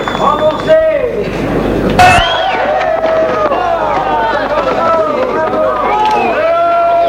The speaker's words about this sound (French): On crie, on hurle.